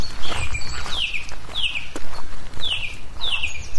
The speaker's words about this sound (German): Während wir unsere Augen und Ohren auf 110% geschaltet haben, hören wir dieses. Das sind tausende Lachmöwen.